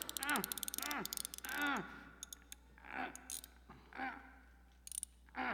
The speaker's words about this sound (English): Uh-oh. Two, what's that noise? I'm not sure, sir. Now it's ticking, man. Listen to that.